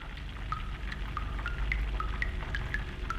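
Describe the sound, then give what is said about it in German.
Distillate drips and gurgles inside a copper still in a distillery, where steam is condensed in stainless steel tubes cooled by cold water; bright liquid plinks land in an irregular patter over a steady low bubbling rumble, moderately loud with no talking. “Es brodelt, gurgelt und tröpfelt in der Brennerei.”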